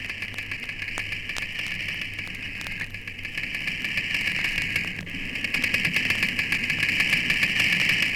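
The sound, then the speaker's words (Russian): An unidentified Black Sea fish makes irregular clicks and crackles over a steady, hissing underwater drone and a low hum, growing slightly louder toward the end. No one speaks. “А эта черноморская рыба пока еще не опознана.”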